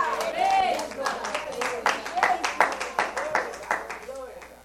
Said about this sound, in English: That's why you clap your hands and shout, you've got it.